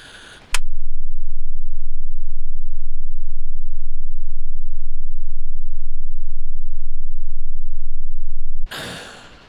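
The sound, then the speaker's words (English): A loud, steady low-frequency rumble burst of low-pass interference at about 11 hertz, captured on a handheld large-diaphragm signal transducer to minidisc, drones for about eight seconds, starting and cutting off abruptly, with brief breathy noises just before and after it. “Now, for the first time, I aim to capture the rumble distinctly on my handheld large diaphragm proprietary signal transducer using a burst of low-pass interference.”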